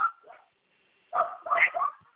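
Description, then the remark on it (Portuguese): A dog barks and yelps in agitated, overlapping bursts, one short outburst then a rapid flurry after a brief pause, sounding like a scuffle in which the dog bites hard. “O cachorro deu uma mordida danada dela.”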